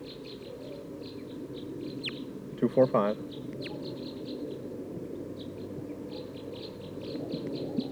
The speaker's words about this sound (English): I think there's a flock of type 2 birds here in the top of this pine tree.